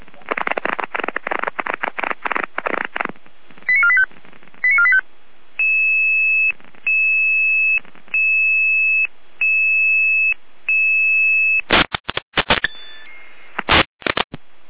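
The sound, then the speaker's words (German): A sequence of electronic radio alerting tones for an emergency dispatch: bursts of static-like noise, then a run of steady pitched beeps in regular on-off pulses, followed by more crackling noise bursts. “Let's see now, mit Alarmierung.”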